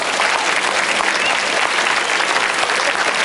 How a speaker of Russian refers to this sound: Поехали под ваши аплодисменты.